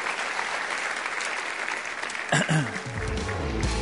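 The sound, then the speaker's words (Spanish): A church audience claps for God at the end of a sermon, a steady, dense, sustained wash of applause with a brief sharper burst midway and a low voice or tone rising underneath toward the end. “Si Dios te habló, da un aplauso al Señor, que Él se lo merece.”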